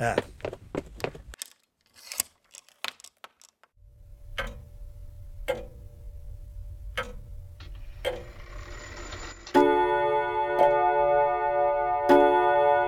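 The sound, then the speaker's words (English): A clock ticks at a slow, steady pace over a low background hum, then begins striking six o'clock with a loud, ringing chime that sustains and repeats over the ticking. “Just as the clock struck 6, the guests began to arrive for the Vigilia celebration”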